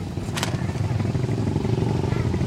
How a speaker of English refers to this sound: The motorcycles going by are all Chinese four-strokes with roll bars and wind fairings and mud flaps, fake snow leopard skin seats, decorated with flying tassels and painted with eternal knots, swastikas, lotus blossoms, and flames.